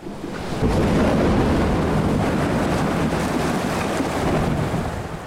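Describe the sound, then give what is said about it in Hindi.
High sea waves crash amid strong, gusting wind from Cyclone Roanu in the Sundarbans area of West Bengal, India, a dense and continuous roar that swells up loudly after a brief quieter opening and stays intense throughout, with no voices. “समंदर में ऊंची लहरें और तेज हवाओं ने पश्चिम बंगाल के सुंदरबन के इलाके में लोगों को अपने घरों के अंदर ही महदूद कर रखा है।”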